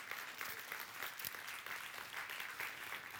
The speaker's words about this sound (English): Amen. Go ahead and give the Lord a clap offering. We need one right now.